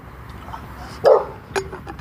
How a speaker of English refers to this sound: Dog. Might be a dog behind that fence.